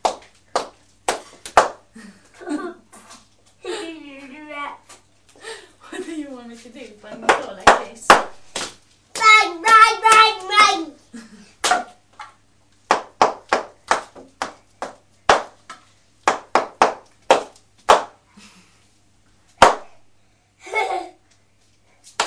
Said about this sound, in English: Bang, bang, bang. Okay. You can bang the floor, that's okay.